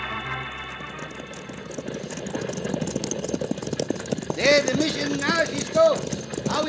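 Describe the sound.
A six-horse artillery team clops along steadily, hooves pounding in a dense rolling rhythm with a low rumble beneath, while voices call out over the din toward the end.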